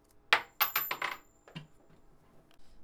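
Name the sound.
coin dropping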